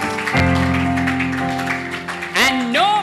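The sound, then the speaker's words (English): An audience claps steadily as a clap offering to God over sustained keyboard or organ chords, the dense crowd applause at moderate loudness, with a rising vocal or instrumental swell near the end. “Give him a clap offering, children of God.”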